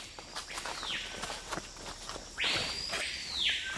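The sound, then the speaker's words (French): A papayo bird sounds its loud, whistle-like song, marking its territory: a short sweeping whistle, then a longer pair of arcing whistles, over steady rustling and tapping noises. “C'est un oiseau qui est très discret, sauf par son chant, qui ressemble vraiment, c'est vrai, à un grand coup de sifflet.”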